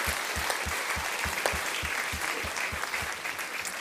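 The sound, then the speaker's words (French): A church audience of the EPI applauds members with 30 years of church life, a dense wash of many hands clapping with a regular rhythmic pulse running through it, sustained and even throughout with no voices. “On va les applaudir et on va les remercier.”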